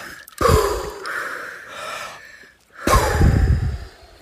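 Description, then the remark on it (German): A deep, noisy gasp for air bursts in after holding the breath for one and a half minutes, followed by heavy breathing and a second big gulping inhale. “Und atmen, tief atmen.”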